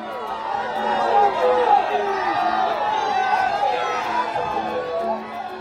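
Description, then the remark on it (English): A large crowd of supporters in the state of Gujarat cheers and shouts as Prime Minister Narendra Modi greets them after casting his ballot in an election; many overlapping voices form a dense, steady roar with scattered whoops rising above it throughout. “Yesterday, the latest phase began, and in the state of Gujarat, Prime Minister Narendra Modi himself cast a ballot before greeting crowds of cheering supporters.”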